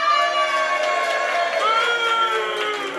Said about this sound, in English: Well, look, should we have a little, a cheer for each one?